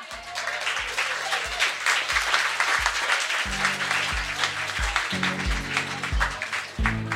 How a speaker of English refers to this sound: Let's give Suzanne another round of applause